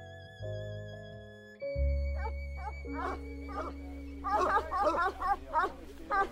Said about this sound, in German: Die Landschaft gehört zu Sachsen, im Osten von Deutschland. Auf einer Wiese weiden Schafe. Aber was ist das? Einige Schafe scheinen zu bellen.